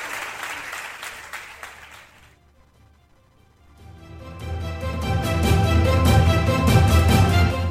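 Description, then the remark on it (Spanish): An audience in Laredo, Spain, applauds a man being honoured, clapping in a dense, steady patter that fades to a brief lull, then swells back even louder and fuller, sustaining to the end. “Un aplauso para él.”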